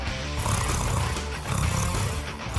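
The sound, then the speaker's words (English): A person imitates a cat's purr with a steady, rough, rumbling throat vibration for a few seconds, coarse enough that it verges on a horse-like snort. “It's my best purr there”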